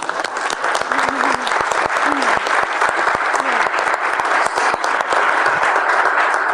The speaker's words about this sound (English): You can clap.